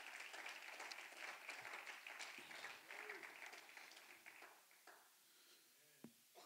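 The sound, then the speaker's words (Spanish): A large church audience applauds Christ as a clap offering, a dense, steady roar of clapping that fills the room, then gradually thins out and fades, with a few voices calling out near the end. “Denle un fuerte aplauso a Cristo, iglesia. Give the Lord a clap offering.”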